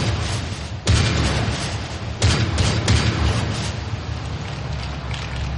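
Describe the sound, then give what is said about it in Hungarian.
Rifle shots crack out in a few sharp bursts, loud, over a constant dense rumble of battle noise, as attackers ambush an escorted wagon on a road, with no voices. “Várjuk meg, amíg puska lövésnyire érnek.”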